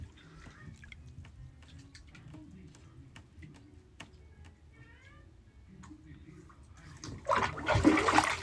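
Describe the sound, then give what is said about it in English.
Bathwater with soap and vinegar drains out of a tub with a loud gurgling rush near the end, preceded by a quieter stretch of low murmuring and faint ticking. “And then after that, I like to let out all this water and soap up and vinegar stuff.”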